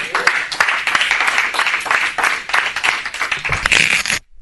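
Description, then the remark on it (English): An audience breaks into sustained applause as a clap offering to the Lord, many hands clapping densely and steadily, then the sound cuts off abruptly near the end. “Would you give the Lord a clap offering, please?”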